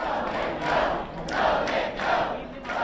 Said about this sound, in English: The crowd shouted, "Go Mitt, go!"